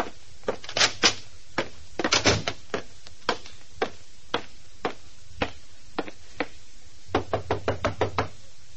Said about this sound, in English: Nobody answered my knock at Janie's dressing room. I tried the doorknob, was just about to go in when...